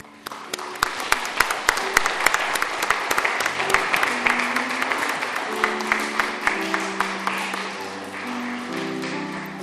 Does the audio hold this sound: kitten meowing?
no